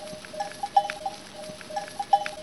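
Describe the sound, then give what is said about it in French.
Bells on a flock of ewes clank and tinkle irregularly, several metallic tones overlapping at an uneven, ambling rhythm, moderately loud against a quiet outdoor background. “Ouais, j'adore le bruit des cloches et l'odeur des brebis.”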